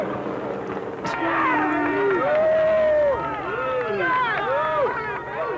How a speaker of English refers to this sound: When F. Lee Bailey drove his Jaguar through the crowd on the way into O.J.'s estate, the crowd went wild.